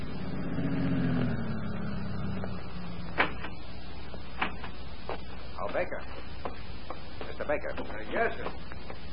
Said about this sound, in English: Then, 1 week later, Baker was standing at the farm entrance when two men drove up and got out of their car.